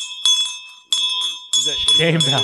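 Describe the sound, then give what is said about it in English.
A bright bell rings out three times in quick succession, its tone lingering between strikes; a voice starts talking over the last ring. “Did you bring that bell out just for this?”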